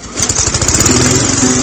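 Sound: lawn mower engine running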